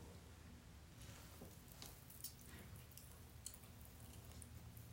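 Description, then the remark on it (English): Water drips slowly and irregularly from a tub after the water is turned off, a few soft, quiet plinks spaced over several seconds against a steady low background hum, with no one talking. “Well, as it slows down, it does get a little bit slower every time, but it definitely doesn't speed up.”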